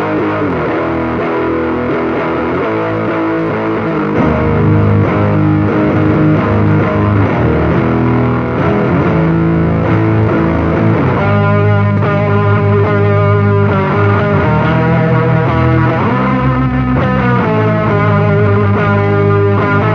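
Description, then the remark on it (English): Heavily distorted electric guitar, played through a Rat distortion pedal with a touch of reverb, plays loud chords and riffs, the tone thickening and growing brighter with busier harmonics partway through. No one speaks. “So we got a little bit of verb on it. Here's the Rat.”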